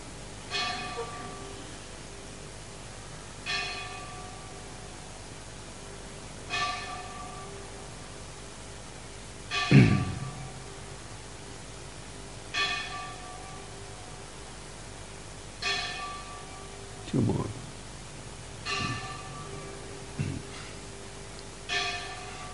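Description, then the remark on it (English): A bell is struck repeatedly at a slow, fairly steady pace, every two to three seconds, in the system of bell ringing instituted by Prabhupada, each clang ringing out and fading over a faint background hiss, with a few heavier low thumps. “Do you know why Prabhupada instituted this system of ringing of bells?”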